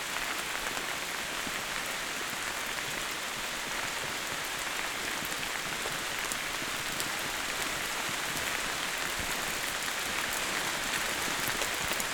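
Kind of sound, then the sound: nature, rain pattering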